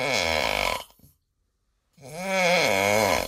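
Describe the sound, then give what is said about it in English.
A man snoring loudly, with two rasping, drawn-out breaths separated by a second of silence; the second snore is longer and rumbles with a wavering pitch. “The answer, a man snoring.”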